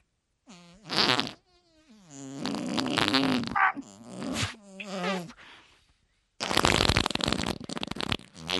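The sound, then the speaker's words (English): A drawn-out, wet, sputtering liquid fart, loud, rising and falling in pitch through several bursts before a harsh, spluttering finale after a brief pause. “Now, I believe that was one of your well-known liquid farts.”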